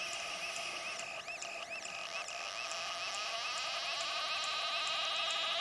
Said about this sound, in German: Der Künstler Lee Patterson hat das Wachstum des rauen Hornblatts in einem Teich bei Manchester eingefangen. Das Pfeifen und Blubbern entsteht durch das Aufsteigen tausender kleiner Sauerstoffbläschen, die die Alge abgibt.